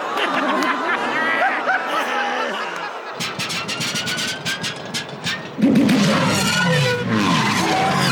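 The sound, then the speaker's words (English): A racing pod engine whines and revs during the pod race, then breaks into a rapid series of sputtering pops and crackles as Quadraneros's pod has engine trouble, before roaring loudly back up. It sounds busy, with other engine noise layered underneath. “Well, it looks like Quadraneros is having engine trouble also.”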